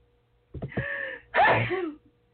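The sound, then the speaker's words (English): A few sharp, hitching intakes of breath build up to one loud, explosive sneeze, trailing off quickly into quiet. “That was a good sneeze, good sneeze.”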